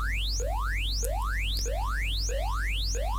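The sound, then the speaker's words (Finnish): A shop's security alarm, set off as a false alarm, wails in rapid rising sweeps, each tone gliding upward in pitch about twice a second, repeating steadily and loudly over a low steady hum, with no voices. “Antero Raadon vartiointiliike saavat hälytyksen. Saa hälytyksen tietysti myös liikkeen omistaja.”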